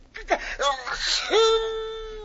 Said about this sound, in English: Pancho got a sneeze, Cisco. No, Pancho, hold it. Pancho, try to be... Mother mia, that will do it. Hey, did you hear that, Waldo? Pancho sneezing.